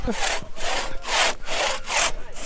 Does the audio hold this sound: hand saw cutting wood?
yes